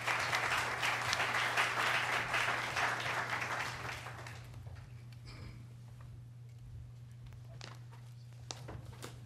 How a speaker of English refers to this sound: If we can give a round of applause to our panelists today.